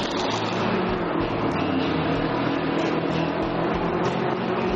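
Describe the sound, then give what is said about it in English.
A big, chunky engine on a racing cart roars loudly and steadily, its revving drone holding a constant, dense rumble for several seconds with no voices over it. “He's getting loads of revs from that big chunky engine.”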